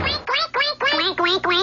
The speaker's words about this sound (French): Quoi, y a des canards dans le restaurant? Ah, c'est pour ça qu'on appelle ça le café du coin. C'est pas un peu étrange, 3 canards dans un restaurant, patron?